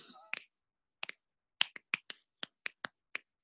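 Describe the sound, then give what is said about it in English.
A quick series of about ten crisp finger snaps, fairly loud, in an uneven rhythm with a few doubled snaps, after a brief bit of voice at the start; a person snaps while making faces. “You gotta snap while you're doing your faces.”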